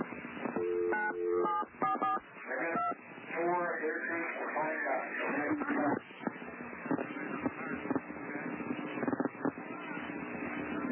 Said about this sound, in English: But listen as David Koresh dials 911. You can hear the 911 tones on the telephone.